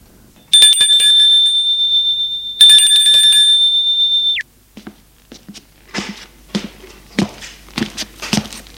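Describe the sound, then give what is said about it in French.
A doorbell at Mathilde's home rings twice in long, steady, high-pitched bursts, each lasting nearly two seconds, then stops abruptly, followed by a scattering of soft knocks and clatters. “Le lendemain, Charles-André, tremblant, car ne sachant ce qu'il va lui dire, sonne chez Mathilde.”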